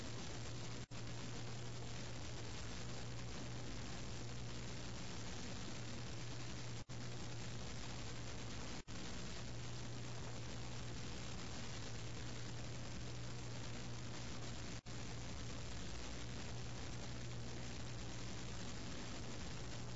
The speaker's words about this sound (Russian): В небе появились самолеты противника.